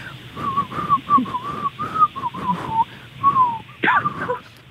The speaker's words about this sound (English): I'm going to whistle you a song and you've got to guess what it is, okay?